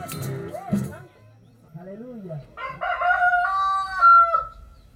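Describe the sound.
In the morning, amid croaking bullfrogs and birds, a rooster lets out one long, loud, ringing crow in the second half, after a brief stretch of voices at the start and a few low grunting notes.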